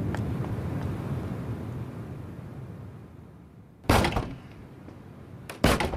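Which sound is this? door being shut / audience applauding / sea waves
door being shut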